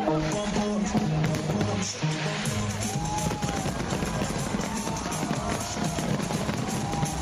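New Year fireworks in Trafalgar Square crackle and pop in a dense, loud barrage while a popular song plays underneath, its sustained notes clearest at the start before the bursts crowd the mix.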